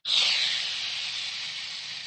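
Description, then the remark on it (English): A voice makes a long, steady hissing sound like air rushing out of a deflating balloon. It starts abruptly, stays fairly loud for about two seconds, and tapers only slightly, with no talking. “just like a big balloon.”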